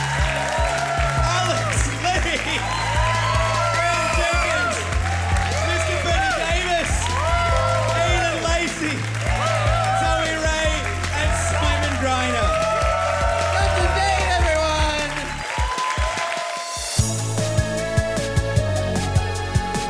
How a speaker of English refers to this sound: Can I have a big hand of applause